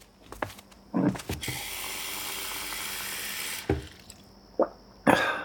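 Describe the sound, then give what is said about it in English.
A tap runs steadily for a few seconds, water pouring into a glass for a parent in a toy-filled living room in a California Closets advertisement, framed by clinks and handling knocks before and after, with a sharp clunk as the faucet shuts off. “Take this moment of a parent walking across their toy-filled living room for a glass of water.”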